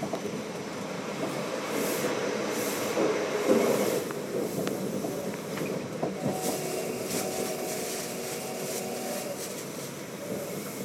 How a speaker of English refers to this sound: Approaching Coatbridge Sunnyside. Please mind the gap when alighting from this train.